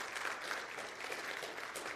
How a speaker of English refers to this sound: They do a, guys, I need to teach you how to clap, I guess.